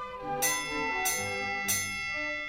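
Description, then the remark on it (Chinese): A bell at an estate gate rings three times at an even, unhurried pace, each clear strike leaving a lingering, shimmering tone that overlaps the next, with no voices. “住在小屋的园丁听到钟声之后打开了大门，于是我们穿过了庄园、村庄，跑下山丘，抵达了收费站。”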